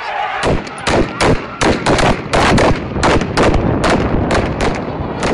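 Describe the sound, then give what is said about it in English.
Riot police fire weapons at a peacefully assembled crowd of protesters in Diraz village, Bahrain, in a rapid, irregular string of loud, sharp cracks and bangs, some shots clustered together, over a constant rumbling wash of commotion. “In Diraz village, chaos erupts as a crowd peacefully assembling is suddenly charged by riot police who fire their weapons.”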